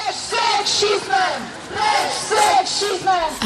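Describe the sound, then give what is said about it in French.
A large protest crowd that has filled the streets of Warsaw, Poland, on a Saturday chants an anti-sexism slogan in unison outdoors, loud rhythmic shouted phrases repeating every second or so, many voices blending together with a rough, energetic edge. “Abat le sexisme, crie la foule bigarrée qui a envahi les rues de Varsovie ce samedi-là.”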